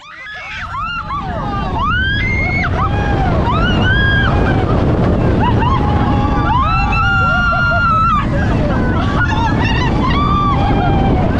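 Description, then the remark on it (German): Many riders scream together on a typical ride at Busch Gardens amusement park, overlapping high-pitched wails rising and falling over a steady roaring rumble of the ride's motion, loud and continuous throughout. “Wir können uns ja ganz kurz mal anhören, wie die Begeisterung bei einem typischen Ride bei Busch Gardens”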